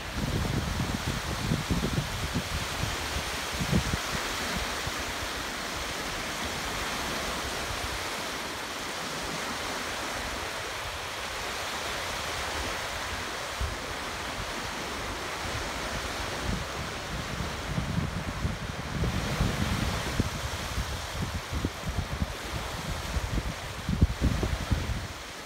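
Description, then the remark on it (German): Steady rushing wash of waves breaking on a shore on a bitterly cold day, swelling and easing in irregular surges with low rumbling bursts, continuous throughout with no voices. “als wäre man hier am Meer”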